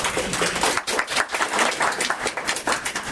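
A crowd applauds steadily for about three seconds, a dense wash of many hands clapping at once with no voices over it, holding a fairly even loudness throughout.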